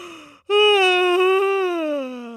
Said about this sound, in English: He yawned.